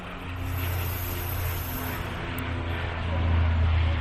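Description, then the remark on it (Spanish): A heavy, continuous roar of military aircraft flying overhead as they rehearse for Armed Forces Day, with a deep droning rumble that stays loud throughout and swells slightly toward the end. “Pues son los aviones que están ensayando para el Día de las Fuerzas Armadas.”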